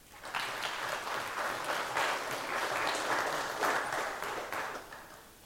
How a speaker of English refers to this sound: And this is, by the way, the only event she is still coming. So I think this earns, again, an applause.